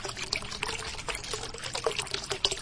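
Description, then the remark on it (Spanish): Tap water runs steadily into a bathtub, turned on by a child who has brought a Playmobil pirate ship to the tub, a continuous splashing pour with small bubbling bursts throughout and no voices. “El niño monta el barco, lo lleva a la bañera, abre el grifo y sonríe.”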